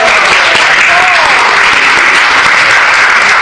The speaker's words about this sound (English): So I'd like you to give her a big round of applause. There you go.